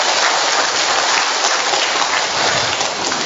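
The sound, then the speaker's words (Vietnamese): An audience breaks into loud, sustained applause to congratulate those who have Saint Margaret Mary Alacoque and Saint Henry as patron saints, a dense, steady wash of many hands clapping at once that holds without pause for the whole stretch, with no voices over it. “Chúng ta một tràng pháo tay thật lớn để chúc mừng, thưa anh chị.”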